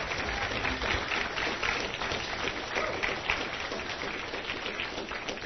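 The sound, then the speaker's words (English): A crowd applauds steadily for several seconds, many hands clapping at once in a dense, even roar of claps that holds its loudness throughout, with no voices standing out. “Help me give Mike and Alex a round of applause.”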